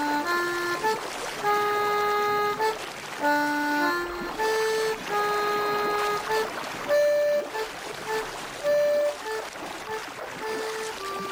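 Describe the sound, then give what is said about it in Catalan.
A ship pulls away from port, sounding a series of sustained horn tones at shifting pitches over a steady wash of water and engine noise, loud throughout. “Malauradament va arribar al port al moment just per veure com sortia el vaixell on li semblava que s'havia amagat el nas.”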